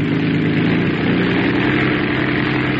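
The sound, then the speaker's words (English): An engine is revved, its loud, low, throaty drone holding steady for the whole stretch with a slight shift in pitch partway through, and no voices. “Rev her up again. We'll listen once more.”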